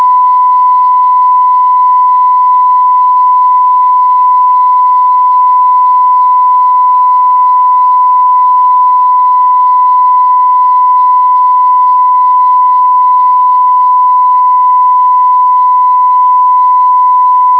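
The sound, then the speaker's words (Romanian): A single steady electronic beep tone over an amateur radio repeater link (the repeater on Făgăraș) holds at one pitch without a break for the whole stretch, loud and continuous, with a faint hiss around it and no voices. “s-a auzit un piuit așa, un ton ca de miro, așa?”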